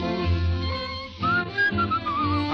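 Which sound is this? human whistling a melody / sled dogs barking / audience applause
human whistling a melody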